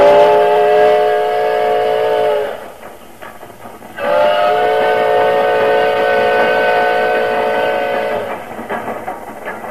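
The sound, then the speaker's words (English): A steam locomotive in the CBS Radio Workshop production The Ballad of the Iron Horse sounds two long, steady whistle blasts, the second longer than the first, over a continuous rumble and rhythmic chugging and puffing of the train. No voices are heard. “Oh, he puffed and he panted, this old iron horse.”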